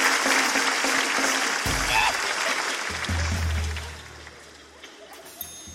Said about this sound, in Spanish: Un fuerte aplauso.